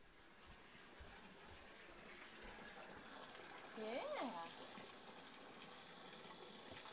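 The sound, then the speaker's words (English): Steady water runs and splashes as hands are washed, a continuous rushing wash of sound, with a brief voice rising over it midway. “Put your hand in the water, your hand gets clean, huh?”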